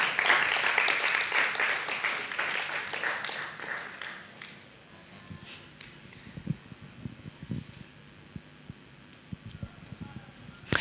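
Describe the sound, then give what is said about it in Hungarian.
A crowd claps to welcome two guests coming forward, in a dense burst of applause that gradually thins and fades over about five seconds, followed by scattered soft thumps and shuffling. “Úgyhogy kérlek, köszöntsétek szeretettel és nagy tapssal”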